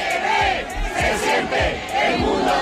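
A crowd of hundreds of protesters at the gates of the Congress in Madrid chants and shouts in unison, a loud continuous roar with rhythmic rising swells repeating every second or so, no single voice standing out.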